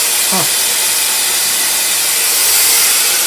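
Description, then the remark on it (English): A blow dryer runs steadily and loudly throughout, a constant airy whoosh with a bright hissing edge, while a brief voice fragment pops up near the start. “I thought even a blow dryer, you're not really supposed to.”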